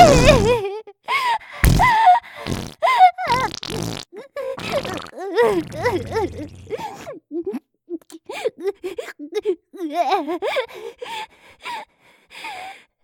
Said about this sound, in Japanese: しちゃった。おならいっぱい。